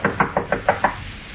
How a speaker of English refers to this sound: Rap on the door, Olson.